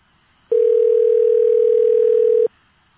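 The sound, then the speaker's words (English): A single steady ringback tone on an outgoing call to Mike Rotkin's home phone at about 7:05 in the evening, sounding for about two seconds and then stopping, loud and clear with quiet line hiss before and after and no voices. “So we're ringing Mike Rotkin.”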